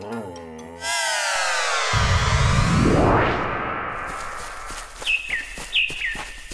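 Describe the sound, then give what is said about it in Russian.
After a sweeping musical whoosh, a few bright bird chirps ring out near the end in a sunny summer forest, two short whistled phrases over a soft outdoor background with no one talking. “Солнышко так ласково светит, птички поют.”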